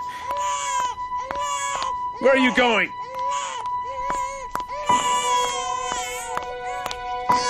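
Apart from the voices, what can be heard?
baby crying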